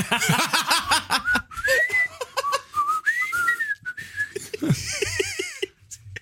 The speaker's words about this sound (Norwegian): Det er litt sånn som plystringa hjemme hos oss for noen familiemedlemmer.